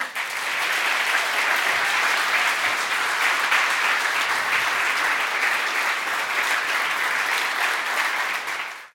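An audience applauds steadily for about nine seconds, a dense, even wash of many hands clapping that holds its loudness throughout before cutting off at the end. No one speaks.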